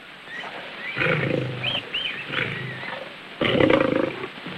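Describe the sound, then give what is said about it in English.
A lion roars in a series of deep, rumbling growls, rising to a louder, harsher roar near the end, fairly loud with no talking. “The lion nears. Now the elephant carries Tarzan away in its mouth, and the lion turns its attention to a grazing zebra.”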